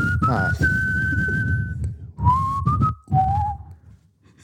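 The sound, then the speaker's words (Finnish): A person whistles a short melody of a few sustained notes, stepping down in pitch, fairly loud over a bed of background music. “Niin, mä kyllä osaan viheltää sun mukana tätä, mutta et tiedä nimeä.”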